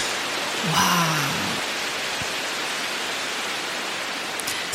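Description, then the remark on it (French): A rain stick is tipped, giving a steady hiss of tiny pellets pattering and trickling for several seconds. A brief voice sounds near the start. “Un bâton de pluie ? Mais qu'est-ce donc ? C'est ça, c'est comme pluie.”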